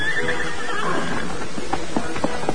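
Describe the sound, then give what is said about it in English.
The Lone Ranger's horse Silver neighs, a loud, quavering whinny that tapers off as its master calls it from a pit, followed by a few short, sharp sounds like hooves stepping. No one speaks. “After several efforts, he paused, then called to his horse.”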